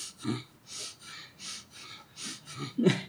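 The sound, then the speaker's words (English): Quick, shallow breaths in and out at a steady rapid pace, about two per second, fairly loud, with a few harsher, snort-like gasps mixed in and no talking; a person demonstrating the fast, hyperventilating breathing that comes with fear. “And when we're in a fear or something like that, we tend to breathe really quickly.”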